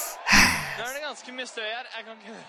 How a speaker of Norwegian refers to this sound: Han puster litt.